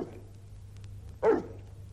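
A large mastiff named Saba, of one of the largest dog breeds in the world, gives a single deep, booming bark, loud, over a steady low background hum.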